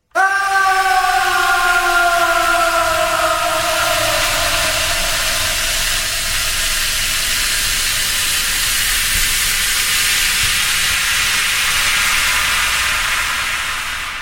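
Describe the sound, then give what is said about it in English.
A loud, steady sizzling hiss of an acid bath sound effect runs the whole time. At the start a high, wailing scream of a man slides downward and fades within a few seconds. “Sounds a little bit like the acid bath, and then just a man screaming.”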